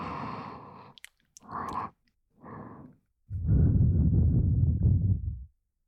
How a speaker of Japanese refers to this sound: ほら、私の息遣いも感じるぐらい。